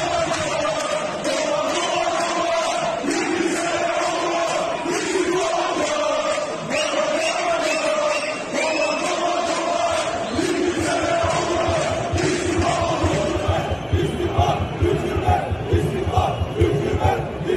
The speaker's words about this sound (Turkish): İstersen önce tezahüratları dinleyelim Fenerbahçe ve Beşiktaş tribünlerindeki, sonra devam edelim.